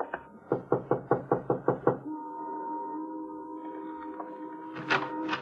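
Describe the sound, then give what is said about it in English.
A rapid, even series of about nine firm, loud knocks on the door of a white single-frame house in need of repairs in a rundown section of a city, followed by a sustained low droning tone, like a creak, and a short scrape at the end. “Want to knock? Sure.”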